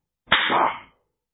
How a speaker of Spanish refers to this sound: Me sangró el labio de la cachetada que me dio. Una bofetada que me hizo hasta obnubilar el cerebro.